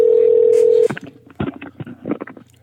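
A loud, steady telephone tone holds for nearly a second, then breaks off into short, uneven bursts of line noise and clicks, like a call being placed and connecting, as an online ticket seller is called.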